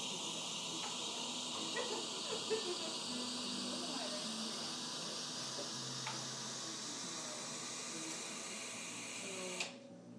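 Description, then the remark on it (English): A steady, loud hiss from an espresso machine's steam wand, used by a café worker making coffee to steam milk, runs for about nine seconds and cuts off abruptly, with faint café chatter and clinks underneath. “Yep, that was him doing the steaming.”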